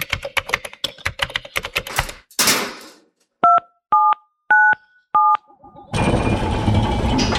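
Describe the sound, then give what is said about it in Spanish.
Rapid clicky key presses on the keyboard of a time-travel machine, a brief whooshing burst, then four distinct two-tone keypad beeps in steady rhythm, ending in a loud sustained electronic rushing hum. “Así que delante de nosotros tenemos el teclado de nuestro cronovisor y vamos a viajar a un momento indeterminado de la primavera de hace casi 20.000 años.”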